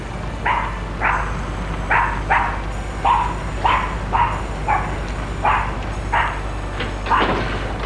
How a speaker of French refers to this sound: Des chiens errants.